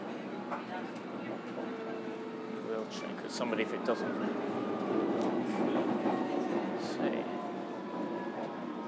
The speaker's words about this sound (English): Excuse me, what line is this train on? Is this on Hammersmith and City, or is it Metropolitan, or...? Hammersmith and City. It's Hammersmith, perfect.